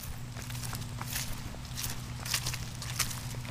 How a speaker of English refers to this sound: This afternoon we're walking, we get a little more crunch to here, and there's a little bit of a breeze.